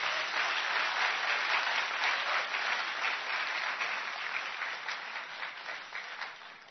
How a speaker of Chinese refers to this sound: 所以我是非常之欣赏阿梁的，我们好不好给一些掌声阿梁啊？